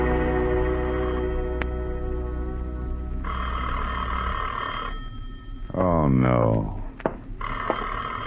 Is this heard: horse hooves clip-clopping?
no